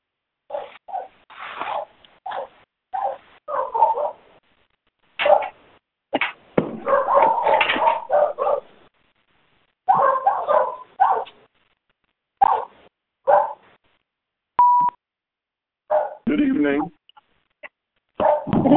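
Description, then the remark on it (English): Dogs bark in short, irregular bursts over several seconds, loud, mixed with muffled voices and scratchy, noisy interference, with brief gaps of quiet between outbursts. “Can't hear you with all the static and dogs.”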